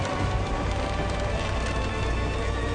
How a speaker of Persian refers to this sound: برادرم جبرئیل، کشتی طاقت این طوفان را ندارد.